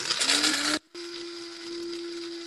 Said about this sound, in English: Because if you're doing this in a blender, pulse it. But in a coffee grinder, keep holding it.